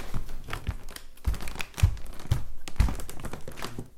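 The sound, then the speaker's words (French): Wooden floorboards in a house creak and crackle, with a few soft low thuds landing roughly every half second, like slow steps shifting weight across an old floor; no voices. “Maintenant, le bruit du plancher.”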